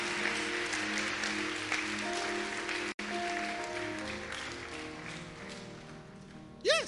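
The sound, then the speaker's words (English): A church audience claps its hands for the Lord in a dense, steady wash of applause that lasts several seconds, with sustained voices or musical tones ringing through it and a brief dropout midway. “Palmas para o Senhor. Clap to the Lord.”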